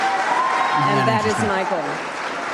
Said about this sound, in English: And all the libtards cheer.